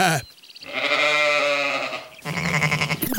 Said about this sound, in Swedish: Alla som har hört får någon gång vet ju att de bär på ett ganska brett ä. Bä. Bä.